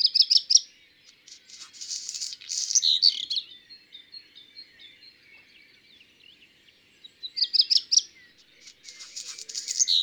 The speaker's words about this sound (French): le chant du rouge queue noire est en deux parties. D'abord un tsirititi, puis un court silence et un curieux bruit de papier froissé suivi de quelques notes.